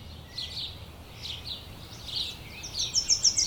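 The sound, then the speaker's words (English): Many birds chirp and trill at once in a dense pre-dawn chorus around 5 a.m. on a trail, with brighter, rapid repeated notes rising near the end over a soft background hush. No one speaks. “I wake up for good around 5 a.m. to a cacophony of birdsong.”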